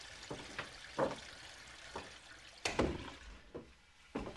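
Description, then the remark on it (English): A toilet flushing as a woman flushes scraps of paper down the drain, heard as a low, steady wash of water broken by irregular gurgling splashes and surges, fairly quiet throughout, with no voices. “She dumps the scraps of paper in the toilet bowl, flushes them down the drain, and closes the lid, then shuts the bathroom door.”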